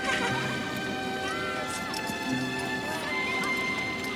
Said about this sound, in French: C'est mon cheval.